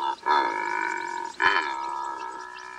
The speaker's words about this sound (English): Did you hear that secretary bird? Like, come on. That thing's a dinosaur. Come on. That is so cool.